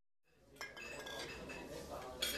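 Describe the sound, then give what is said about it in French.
Busy restaurant ambience with dishes and cutlery clinking repeatedly, bright metallic and glassy chinks over a steady murmur of indistinct background chatter. “Restauration. Page 57. Leçon 2. Page 61. Une cliente de la casserole passe commande.”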